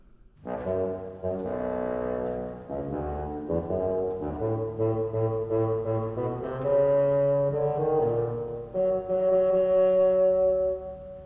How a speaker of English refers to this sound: And in this story, all the characters are represented by an instrument in the symphony orchestra. The bird by a flute. The duck by an oboe. The cat by a clarinet. Grandfather by a bassoon.